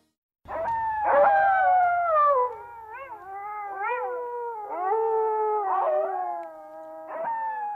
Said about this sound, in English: That is the unearthly sound of a wolf pack in the wild.